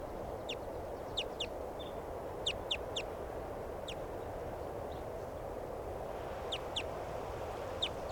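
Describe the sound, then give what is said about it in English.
Crossbill flight calls as the bird flies over: sharp, high 'kip' notes, about ten of them in short clusters of two or three, sounding over a steady low rumble of background noise. “Recording a crossbill, it sounded different.”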